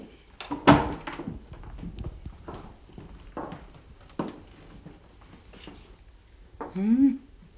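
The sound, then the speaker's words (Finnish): Several sharp knocks on a hotel room door at uneven intervals, the first loudest, the rest softer, with a brief voice near the end; no one answers. “Mitä sinä koputtelet tietäisen kysymättäkin? Ei sieltä kukaan vastaa.”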